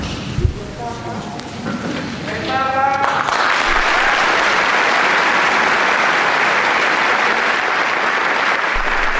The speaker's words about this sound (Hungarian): Ma is tapssal ér véget az audiencia.